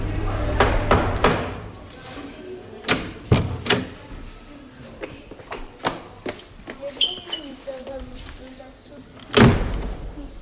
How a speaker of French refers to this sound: Toquer et ouvrir la porte.